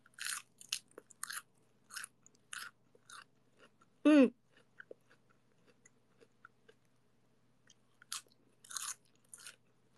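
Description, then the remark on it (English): Crisp crunching as someone bites and chews a cold head of lettuce taken from the fridge, in irregular bursts with quiet gaps and a brief louder squeaky sound partway through. No talking. “So I went to my fridge and I pulled out this head of lettuce that I got.”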